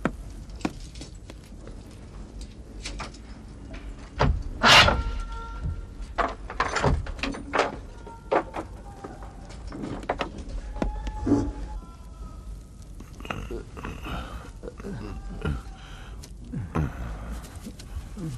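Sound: door being opened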